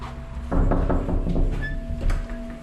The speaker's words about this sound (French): Et nous, on n'a pas résisté à la tentation de frapper à sa porte.